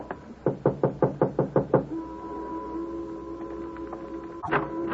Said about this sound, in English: 763 was a white single-frame house badly in need of repairs. The shades were drawn, but a dim light inside indicated someone was at home. Want to knock? Sure.